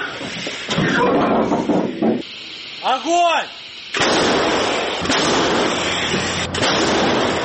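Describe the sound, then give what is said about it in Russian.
An M109 self-propelled howitzer fires: a sudden heavy blast bursts out midway and trails into a long, loud rushing roar, after a stretch of harsh noise and a brief wavering tonal whine. “Так вот, М109 может работать, не стесняясь.”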